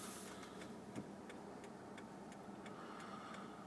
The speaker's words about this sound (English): Oh, it's so warm in here. I've got to turn on this air conditioner. It's the only way.